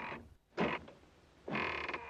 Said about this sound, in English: He takes a key out of his pocket and unlocks a padlock on the door latch. He has to give the door a shove to get it open.